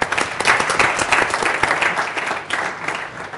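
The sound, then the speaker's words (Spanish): An audience breaks into steady applause for the volunteers who came forward, many hands clapping in a dense, crackling wash that holds fairly even before tapering slightly toward the end, with no voices over it. “Venga, por favor, muchas gracias, un aplauso para los valientes.”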